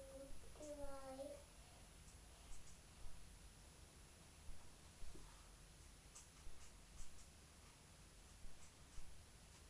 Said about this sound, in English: Writing a letter?